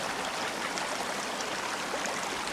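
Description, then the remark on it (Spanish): Water flows steadily in a small irrigation channel that runs across a street, a continuous rushing, gurgling babble with no pauses, moderately loud, with no voices present. “Sentado junto al chorro del que nace la acequia, lee la nota frente al puesto del zapatero.”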